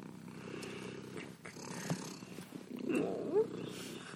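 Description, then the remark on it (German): A tomcat purrs, a steady low rumbling that carries on throughout, with a brief rising squeak near the end. “Du Kleiner. Kleiner so anhänglich. Kater, ja.”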